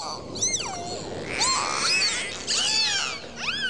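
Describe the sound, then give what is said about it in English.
Dolphins chatter underwater in a busy stream of high, swooping whistles and squeaky chirps, several overlapping and rising and falling in pitch over a steady watery hiss. “Just listen to that friendly giggling and cheering of dolphins.”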